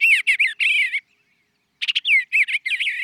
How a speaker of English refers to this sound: But did you know that some bird songs contain secret messages? Like this sweet singing eastern bluebird.